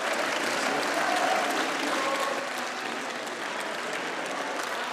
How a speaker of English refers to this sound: I should say there was also quite a lot of clapping for Orban from the far-right members of parliament, who are fairly strong in numbers these days.